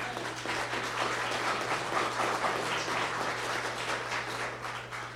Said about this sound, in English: Give a hand clap to Jesus.